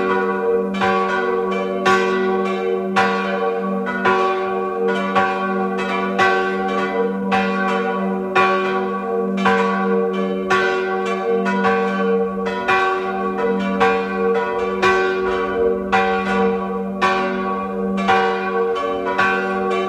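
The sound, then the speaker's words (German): The bells of the parish church of St. Roch in Schnann am Arlberg, Tyrol, peal continuously at 12 noon, several bells ringing in an overlapping rhythmic pattern with a steady low hum beneath, full and resonant, with no voices. “Sie hören die Glocken der Pfarrkirche zum heiligen Rochus in Schnann am Arlberg in Tirol.”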